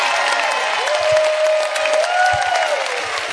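A large crowd claps loudly and steadily throughout, a dense wash of applause with a long whistle-like tone rising above it partway through. No one speaks.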